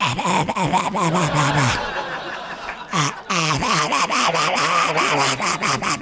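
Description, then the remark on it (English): A voice imitates an old cat's wheezing breathing with loud, raspy, strained gasps repeated in a quick, uneven rhythm, broken by a short pause partway through. “But in real life, when they meet her, she makes this sound.”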